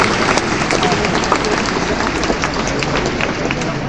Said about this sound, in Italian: Il pubblico ha applaudito la sua risposta, insomma.